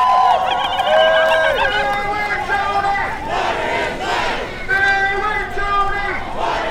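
Hundreds of people chant together at the Black Snake Resistance March, against oil pipelines, along Franklin Avenue in South Minneapolis, many voices rising and falling in loud, sustained, repeated phrases with a steady rhythm and no break across the whole stretch.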